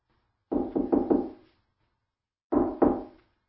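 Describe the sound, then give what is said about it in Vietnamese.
Three firm knocks on a hotel room door a little after 11 o'clock, a pause of about a second, then two more, clear with no one speaking. “Tôi gõ cửa phòng Audrey.”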